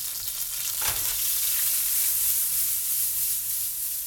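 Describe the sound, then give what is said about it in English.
Cut-up garlic sizzles steadily as it fries in a hot pan, a continuous crackling hiss with a brief louder burst near the start, as if stirred. No one speaks. “Gutierrez cuts up his garlic and throws it in the pan to fry.”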